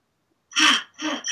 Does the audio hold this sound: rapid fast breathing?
yes